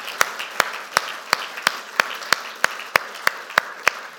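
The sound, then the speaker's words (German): Steady, rhythmic applause: sharp claps land in an even beat, roughly eleven over four seconds, over a softer wash of scattered clapping. No one speaks. “Und wir geben denen, die allen die Hand aufgeben, einmal einen kräftigen Applaus, dass sie die Verantwortung übernehmen.”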